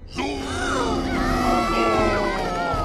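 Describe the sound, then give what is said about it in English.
Someone lets out a loud, drawn-out yell into an echoey hole, its wavering pitch smearing and overlapping with its own reverberation for nearly three seconds, with no other sounds. “… yells into an echoey hole.”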